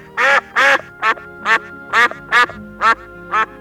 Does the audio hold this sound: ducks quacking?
yes